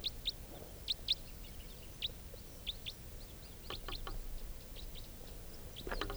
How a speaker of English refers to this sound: Recording the wild bird coming in.